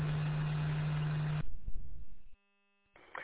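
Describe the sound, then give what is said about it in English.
Steady road rumble and a low engine drone inside a moving truck driving home, loud and continuous, then it abruptly thins out, cuts to near silence, and returns faintly at the end. “Well, if I was at the house, I could, but no, I'm out in the truck, so.”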